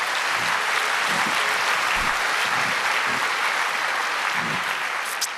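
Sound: audience applause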